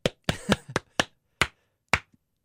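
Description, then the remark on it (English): Sharp, crisp hand claps, about eight in all: a quick uneven cluster at first, then a slower, steady beat of single claps with silence between them and no voices. “Clapping for effect.”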